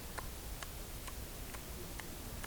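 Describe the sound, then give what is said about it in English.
A clock ticks steadily, six crisp, even clicks roughly half a second apart, fairly quiet over a faint background hiss, with no voices. “There's the clock. It's ticking.”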